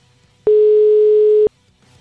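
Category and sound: signal or alarm, telephone ringing tone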